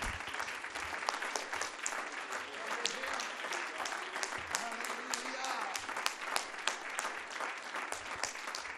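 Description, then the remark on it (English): A church audience claps their hands unto the Lord after a prayer, in sustained, dense applause, many overlapping claps forming a steady roar that stays fairly even throughout, with faint voices mixed underneath. “Would you clap your hands unto the Lord right now?”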